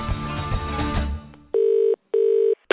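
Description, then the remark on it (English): A busy musical snippet cuts off, then a telephone call to RTE rings down the line before voicemail answers: two loud, steady electronic ring tones with a short pause between, and a third just starting as it ends. “And we're leaving you a voicemail.”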